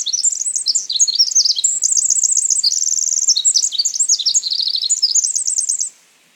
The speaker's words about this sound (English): Let's say you hear this complex song from a Pacific wren that I'm about to play for you. You can hear all the frequencies and you can tell there's a lot going on in there, but it's a bit of a jumble.